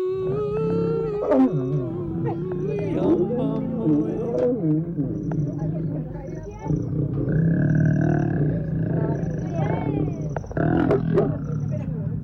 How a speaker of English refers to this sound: two lions mounted each other on top of a tourist safari Jeep and started doing what a male lion does and a female lion does right on top of the vehicle.